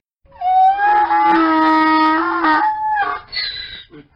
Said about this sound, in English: we haven't had enough sound effects. Do a screeching mule.